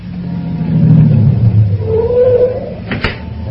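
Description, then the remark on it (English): A taxi engine in New York, while it is still dark, rumbles low, then revs with a rising, wavering whine that fades before a single sharp knock near the end. No one speaks. “Taxi!”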